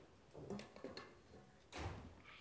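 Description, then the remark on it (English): A front door opens with a soft clunk and, about a second later, shuts with a heavier thud, both muffled, with no one speaking. “As her mom was fixing supper, she heard the front door open and close.”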